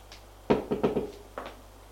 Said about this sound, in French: On frappe à la porte.